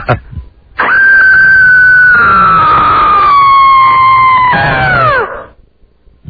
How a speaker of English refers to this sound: Very interesting. That was different. Different, yes. That would be the word to describe it. Different. Quite different. A quite different scream.